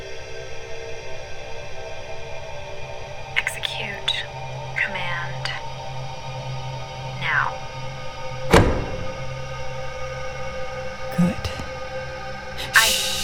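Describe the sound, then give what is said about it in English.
The lock of the door to the bridge clunks open with a single solid mechanical thunk midway, set against a steady low hum, a few short electronic chirps and faint murmuring voices. “Try unlocking the door.”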